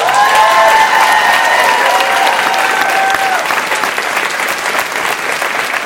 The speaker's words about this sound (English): And finally, I'm sure everyone will be delighted to applaud